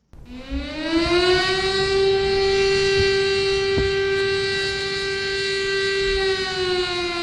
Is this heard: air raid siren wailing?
yes